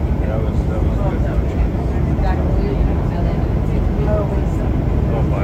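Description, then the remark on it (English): Many passengers murmur indistinctly inside an airplane cabin, discussing an announcement about a landing delay. Their overlapping voices blend into a steady low hum of engine noise, with no single voice standing out. “It's really hard to hear, but that's everybody discussing it.”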